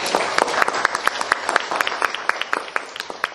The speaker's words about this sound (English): Would you please thank her by a round of applause?